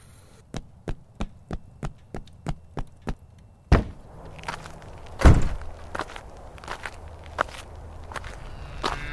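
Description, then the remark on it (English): Rapid, evenly spaced footsteps, about a dozen, as a person runs to a door, then stop with a sharp thump and a heavier knock like a door, followed by scattered handling noises. No one speaks. “I quickly rushed to the kitchen, poured another glass of water, and ran to the door.”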